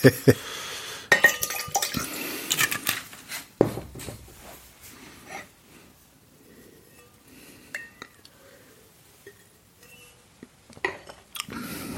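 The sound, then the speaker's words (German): Glass clinks and a splash of liquid as a drinking glass is cleared, with scattered clinks and light handling noises, then quieter moments and a few more taps near the end. “Ich muss noch mal eben ich muss mal eben das Glas hier klären.”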